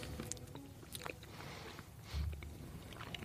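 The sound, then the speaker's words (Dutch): Quiet mouth noises of someone chewing and sucking on a small piece of a tasting sample, with soft wet clicks and smacks scattered irregularly, one slightly fuller slurp near the end. “Gewoon een beetje opzuigen dan. Ja, met je kauwen zuigen.”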